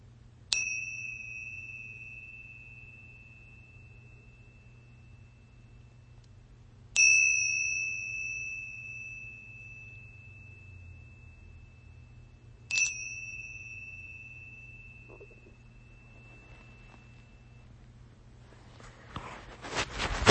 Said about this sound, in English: As we begin, simply listen to the sound of the bell. It doesn't take any effort to hear the sound of the bell.